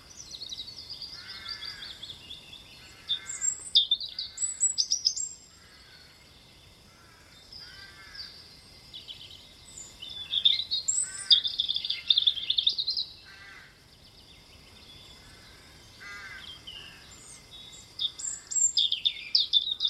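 A bird sings in repeated bursts of bright, warbling phrases with short pauses between them, clear, with no voices present.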